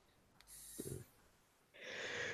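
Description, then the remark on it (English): A single sneeze: a brief sharp intake of breath, a short pause, then a loud breathy burst of air. No one speaks. “Bless you.”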